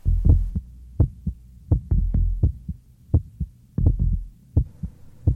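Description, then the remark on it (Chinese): A steady heartbeat thumps in low, paired beats, lub-dub after lub-dub at a calm even pace, muffled over a faint low hum, with no voices. “活着有呼吸，有心跳，有体温，这叫生存。”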